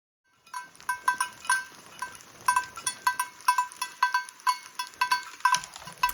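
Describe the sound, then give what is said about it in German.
A bell hung on the neck of a male, antlered animal in a grazing herd clanks in irregular, bright metallic strokes, ringing steadily over several seconds with quiet rustling and movement of herd animals underneath. “Ein Tier war nämlich darunter, ihr habt es gehört. Das hatte eine Glocke am Hals.”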